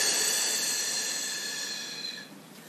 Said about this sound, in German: Wir atmen wieder durch die Nase ein. Und wir atmen durch den Mund aus.